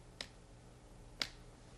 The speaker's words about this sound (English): Let's try this lamp just one more time. Maybe I'll just snap my fingers down by the machine and see if that'll help.